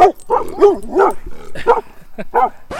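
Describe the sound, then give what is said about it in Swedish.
Several dogs bark in quick, overlapping bursts, loud, with a few higher yips mixed in, forming an excited, continuous volley. They are barking at a grill on a wheelbarrow during a swimming event organized by Kobser. “Efter den korta pausen när hundarna skällde ut en grill på en skottkärra.”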